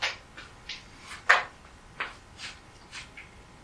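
A door being opened, heard as a quiet series of soft scrapes and clunks, with one sharper knock partway through. No voices.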